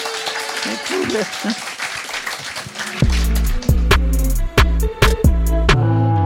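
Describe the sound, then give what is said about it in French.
A crowd claps and cheers in a dense, steady burst for about three seconds to show who loves the shop Action, then the applause gives way to loud voices and laughter. “Par applaudissement, qui aime Action ici ?”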